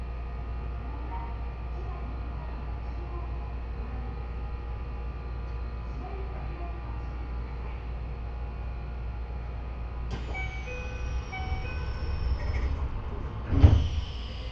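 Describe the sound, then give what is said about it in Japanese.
Steady, low rumbling of a moving Access Express train bound for Ueno on the Hokuso Line, heard from inside the carriage as it heads for Chiba New Town Chuo, with a constant mechanical hum, then brief electronic tones and a short clunk near the end. “この電車はアクセス特急上野行きです。”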